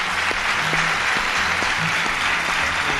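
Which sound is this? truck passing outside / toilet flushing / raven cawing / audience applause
audience applause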